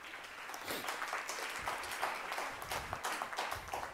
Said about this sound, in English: Only parents clapping.